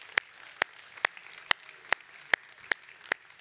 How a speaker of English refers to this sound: If you're a father, why don't you take a stand up so we can recognize you? Let's give a round of applause for our dads.